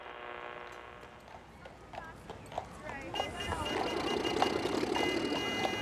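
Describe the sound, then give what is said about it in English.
Horse-drawn carriages and streetcars on Broadway street, with hoofbeats clip-clopping as a steady run of sharp knocks against a dense, bustling background that grows louder toward the end. “As Monsieur Premillo frames streetcars and horse-drawn carriages on the famous Broadway street”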